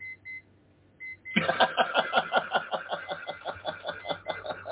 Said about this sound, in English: There's a beep. Yeah, it's just, I'm trying to shut it down. It's one of my alarm clocks going off. So it's all right.